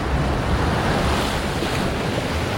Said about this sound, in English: Stand on a rocky headland above the turbulence of the tidal surge flowing like a river.